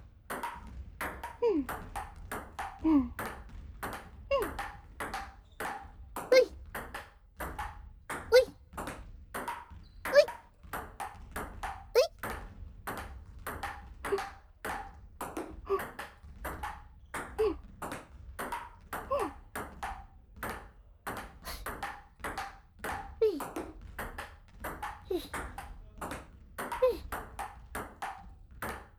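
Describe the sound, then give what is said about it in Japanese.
A ping-pong ball clicks back and forth in a quick, steady rally, dozens of sharp bright taps alternating between paddle and table, with brief pauses and voices speaking over the play. “いい音だね。ピンポンピンポン。”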